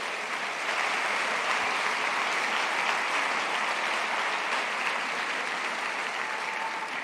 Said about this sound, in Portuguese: E quando a gente começa a entender, é, glória a Deus por isso, cara. Pode aplaudir Jesus por isso.